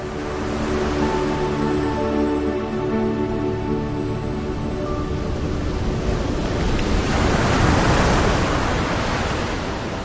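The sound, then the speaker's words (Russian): Oars of a boat splash and churn through river water in a steady, rushing wash, in a reading of Nikolai Karamzin's 'Poor Liza', with a faint low drone under the first half and a louder surge of splashing near the end. “Вдруг Лиза услышала шум весел, взглянула на реку и увидела лодку.”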